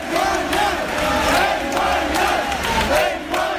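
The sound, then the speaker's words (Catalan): A large crowd of protesters cheers and shouts continuously, celebrating the Policía Nacional withdrawing from the access to Via Laietana, a dense roar of many voices with rising yells and whoops, loud and sustained throughout with no pause. “Això celebraven els manifestants.”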